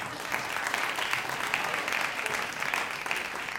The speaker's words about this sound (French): Non, mais merci pour ces applaudissements nourrissants, nourris.